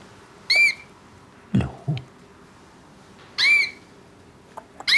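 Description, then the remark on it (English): A small bird with yellow and brown plumage, sitting in a birdcage, calls three times with short, shrill squawking chirps spaced a few seconds apart, fairly loud, with a couple of dull thumps in between. “A small bird with yellow and brown plumage is sitting inside.”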